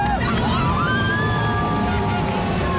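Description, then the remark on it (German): A loud, steady crowd roar at a race finish as runners come in, dense babble and cheering with several high whistle-like tones sliding upward above the noise throughout. “Das ist auch der Jubel größer, wenn man dann, so klingt das nämlich, dann auch einzieht.”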